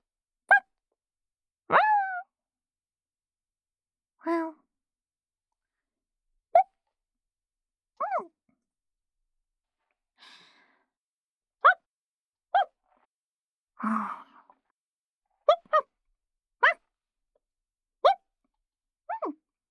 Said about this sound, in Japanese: さて、次はワンちゃんです。いきますよ。